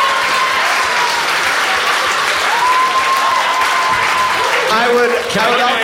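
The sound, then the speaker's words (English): A crowd gives a standing ovation: dense, loud applause holds steady throughout, with a few whistles and scattered cheering voices rising over the clapping near the end. “Standing ovation.”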